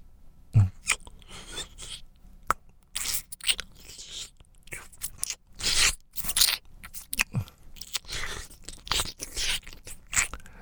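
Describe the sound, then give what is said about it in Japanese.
Wet licking mouth sounds: irregular smacks, clicks and crackly slurps in uneven bursts, fairly soft, with no talking over them. “じゃあ、舐めるよ。”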